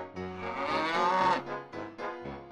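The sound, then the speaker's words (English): A cow named Moo Moo moos loudly, one long drawn-out low call that rises in the middle, followed by a shorter, softer moo. “A cow! It's Moo Moo the cow!”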